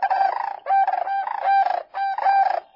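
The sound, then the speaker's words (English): Cranes at a wildlife refuge in the high desert along the Rio Grande, where they winter after returning each November from nesting grounds in the northern Rockies and Dakotas, call loudly in four rolling, rattling bursts, their harsh, bugling voices rising and falling with short pauses in between. No one speaks. “The cranes here return each November from nesting grounds in the northern Rockies and Dakotas, just in time for the annual Festival of the Cranes.”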